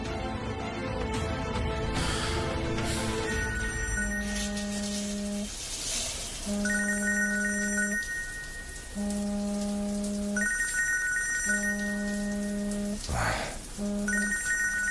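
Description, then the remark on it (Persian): A mobile phone rings with a repeating electronic melody of short tonal beeps, loud, over a steady hiss like rain, with a few louder rustling bursts. “جلسم گوشیم سایلنس بود.”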